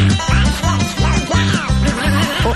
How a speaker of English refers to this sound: The black-bellied whistling duck, Dendrocygna autumnalis. Today's Talkin' Birds featured feathered friend.